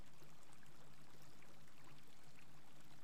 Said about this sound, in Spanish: Y cómo el agua fluye.